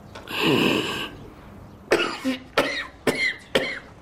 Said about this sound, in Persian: با سرفه‌هات شروع شد؟ برم قرصت بیارم.